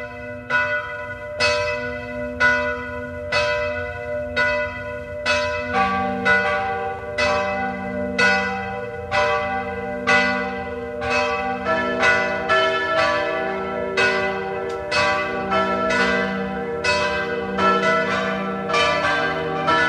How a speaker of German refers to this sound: Es ist 12 Uhr. Sie hören die Glocken der Wallfahrtskirche Maria Hilf zu Ebenthal bei Klagenfurt.